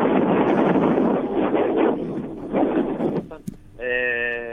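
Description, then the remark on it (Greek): Strong wind on an island roars and buffets through a muffled, tinny phone line for about three seconds, then dies down, followed by a brief crackle and a steady, buzzing harmonic tone at the end. “Αυτή τη στιγμή μπορεί να ακούγεται και ο άνεμος.”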